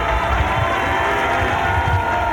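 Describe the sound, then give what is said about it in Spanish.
Loud, sustained applause from a large crowd, mainly from the stands of a parliamentary Salón de Honor during a ceremony. It is a dense, steady wash of clapping with a murmur of cheering mixed in, holding at an even level throughout. “Cuando se escucha un aplauso importante, ronador, principalmente de las gradas, no tanto así de las autoridades que se encuentran abajo, las representantes políticos.”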